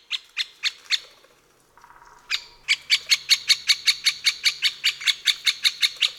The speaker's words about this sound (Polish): Serie te mogą być bardzo długie, szczególnie gdy dzięcioły są czymś bardzo zaniepokojone, na przykład w sytuacji, gdy w pobliżu dziupli pojawi się obcy ptak.